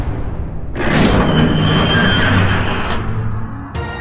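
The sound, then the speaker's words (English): Heavy doors grind and rumble as they slide open, a loud sustained scrape with a metallic squeal that lasts a couple of seconds before fading, then a fresh clunk begins at the end. “Open the doors! It's time!”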